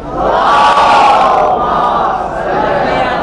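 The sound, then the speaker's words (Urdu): A large crowd chants a salawat blessing together in unison, a loud, sustained mass of voices with a steady harmonic drone that swells slightly and then eases toward the end. “صلوات تو بھیجی.”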